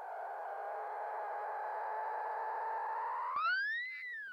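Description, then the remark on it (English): Whistles from a mother dolphin with her calf, recorded by the Sarasota Dolphin Research Program: a long, steady, buzzy tone that slides into a sharp rising-then-falling whistle near the end, clear, with no talking. “And now we have a clip of mama dolphin with her baby.”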